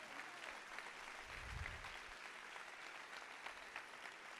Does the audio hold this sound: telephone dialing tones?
no